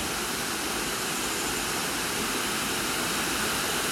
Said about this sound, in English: When the waterfall's in full spate, it creates this amazing torrent. It's not quite in full spate today, but there's still plenty of water coming over it, creating this stream of white coming over the moss-clad rock, which is quite dark in comparison